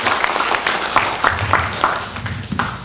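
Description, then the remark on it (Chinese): A church audience applauds steadily, dense overlapping claps filling the space for a few seconds at moderate loudness, with no voices standing out, giving applause to God as time is handed to the pastor. “好，掌声再一次归给神，时间交给牧师，谢谢。”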